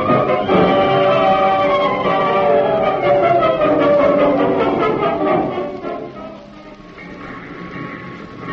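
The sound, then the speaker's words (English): A train rumbles steadily along the rails, loud, with a dense mechanical roar and faint rhythmic clatter that eases and drops in level toward the end. “Couldn't you get us tickets on a good train?”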